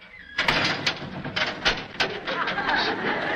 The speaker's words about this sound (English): And that sound was done by closing a specially built door constructed exactly like a cell door.